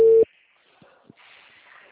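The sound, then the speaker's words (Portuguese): A single loud, steady mid-pitched telephone busy-signal beep cuts off abruptly, followed by near silence, two soft low thumps and a faint hiss. “O telefone.”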